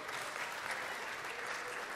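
Steady applause from an audience fills the whole moment, a dense, continuous patter of many hands clapping at fairly close range with no break.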